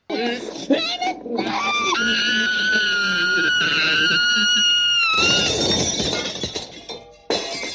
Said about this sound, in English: And so if you haven't seen this movie, and that was like, ooh, that's a little, that's the first time that Oscar screams and breaks glass.